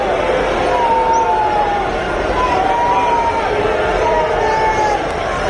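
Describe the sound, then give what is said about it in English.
A large crowd in Texas boos a politician loudly and continuously as he speaks, a dense wall of sustained, drawn-out jeering voices that barely dips across the whole stretch, drowning out his voice buried underneath. “being booed in Texas.”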